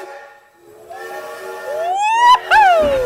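A sound effect of a loud steam train whistle blows with a rich, layered tone, swelling and sliding upward in pitch before a brief break, then sounding again with a hissy edge.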